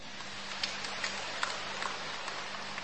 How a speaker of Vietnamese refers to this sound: Xin cộng đoàn tha thứ bằng một tràng pháo tay.